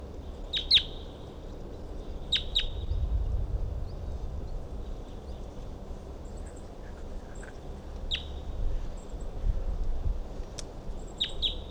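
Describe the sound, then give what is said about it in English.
A wild bird perched on top of a dead tree nearby gives sharp, high-pitched calls, often in quick pairs, separated by pauses of a few seconds, over a steady low rumble of background noise. No one speaks. “So recording, I can see a wild bird perched up on the top of a dead tree nearby, and it was calling.”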